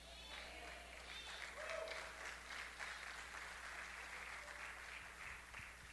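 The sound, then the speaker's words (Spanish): An audience at a church sermon applauds steadily for several seconds, a dense wash of many hands clapping at once, even in volume, with a faint murmur of voices mixed in. “Ahora los que aplaudieron van a demostrar que aplaudieron porque creyeron y entendieron esto.”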